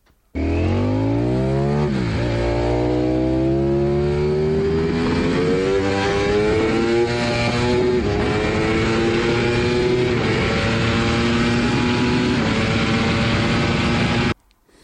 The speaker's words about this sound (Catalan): M'esteu posant difícil, però això d'aquí sembla que sigui o una Yamaha R1 o una Ducati V4. Molt bé, és una Ducati V4S.